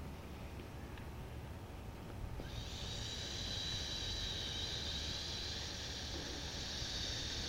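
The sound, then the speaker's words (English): After a quiet, faintly noisy start, a person begins a steady breathy hiss about a third of the way in and holds it without a break to the end, like a long forced exhale through the teeth, done on cue as a practice exercise. “All right, hiss.”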